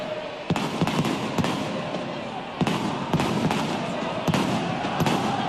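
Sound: fireworks exploding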